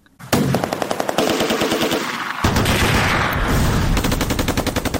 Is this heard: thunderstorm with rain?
no